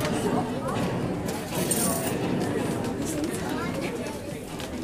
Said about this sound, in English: Well, what they've got is a huge crowd. Just checking out the pins.